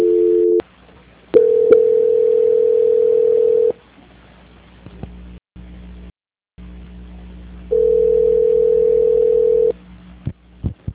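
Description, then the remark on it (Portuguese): A call from a mother's telephone that never connects: long steady mid-pitched beeps of a couple of seconds each, broken by silent gaps and faint clicks, with a low hum underneath and no voices. “Eu tô aqui no telefone da minha mãe, mas não completa.”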